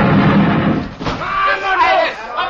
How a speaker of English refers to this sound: He blasted the bolt off my door with a Tommy gun, and then with a half a dozen of his men, he plunged into the house.